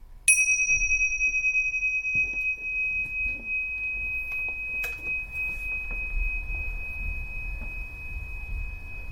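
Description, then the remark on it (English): A single bell is struck once, its clear ring sustaining and slowly fading over several seconds against a quiet room's low background rumble and faint shuffling noises. “See if you can locate the sound of the bell separate from the other noises in the room.”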